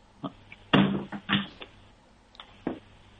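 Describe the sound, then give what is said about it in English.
A door whose squeak has been fixed with WD-40 is opened and shut with a series of wooden knocks and bumps, including a louder thud near the start, and no creak or squeal at all. “Just the opening and shutting. Listen to that.”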